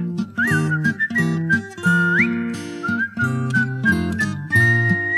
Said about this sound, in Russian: Он знаменитый был артист, играл он на гитаре, и был художественный свист в его репертуаре. Но дома скучно одному съедать свои котлетки и одному свистеть во тьму ночами на кушетке.